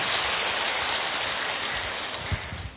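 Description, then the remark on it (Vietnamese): Dense, steady applause from Buddhist followers in a temple assembly hall giving a big round of applause, a continuous wash of many hands clapping at once, holding fairly loud for the whole stretch with no voices over it. “Cho một chàng pháo tay thật to nữa chứ nào.”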